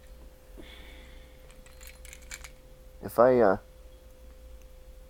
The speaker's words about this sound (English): And I've just ejected the SIM tray from the Samsung, and the Samsung...